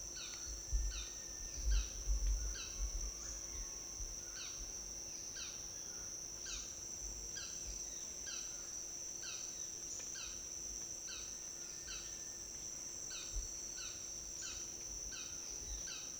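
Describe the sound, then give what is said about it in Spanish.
A small ground-dwelling bird sings a steady run of short, repeated chirping notes in an urban woodland, set against a constant high insect drone and a low background hum. “Y este que está cantando, el que está cantando ahorita es otro pajarito también rastrero.”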